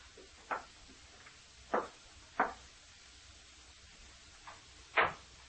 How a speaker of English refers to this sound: I walked up the steps. I reached the outside door. Mechanically, I took the key from my pocket, inserted it in the lock, opened the door.